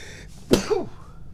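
A person sneezes once, a sudden explosive blast of air followed by a brief voiced trailing sound, with quiet background otherwise and no talking.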